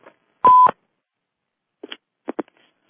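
An electronic beep, like a conference line's join tone, sounds at the start, followed by a few short blips and two quick tones. No one speaks.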